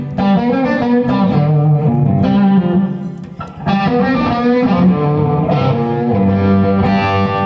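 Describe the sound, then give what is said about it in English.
An electric guitar played through an effects pedal in a very live room with natural reverb, thick and saturated with a shimmering, modulated tone, strummed chords ringing loud with a brief dip midway before resuming. “Wow, that's great. Yeah, what a cool pedal, man.”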